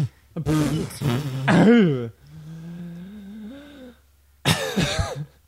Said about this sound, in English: Well, yes, cough into mics.